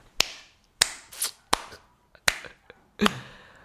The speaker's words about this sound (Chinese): 太厉害了，拍手。